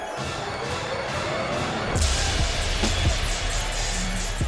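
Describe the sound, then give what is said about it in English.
A quick flurry of punches from UFC fighter Mark Jacacy against Edson Barboza, early in round 3 of 5 in Las Vegas: several dull thudding impacts in close succession over steady arena crowd noise, moderately loud. “Nice flurry of punches from Jacacy.”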